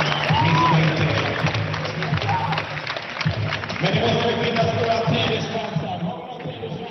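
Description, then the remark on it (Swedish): A large arena crowd at a match roars steadily, many voices blending into loud chanting and shouting that briefly dips midway, then surges again before easing slightly at the end. “Vi ska lyssna lite på publiken här.”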